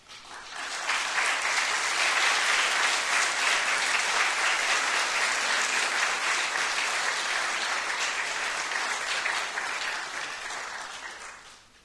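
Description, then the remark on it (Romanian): A church audience claps steadily for about ten seconds, a dense, even wash of applause that rises quickly, holds at a strong level, then fades out at the end. “Și dacă tot l-am lăudat că vă este ajutor, vă rog frumos, mai arătați-vă o dată bisericii, să-l aplaude biserica.”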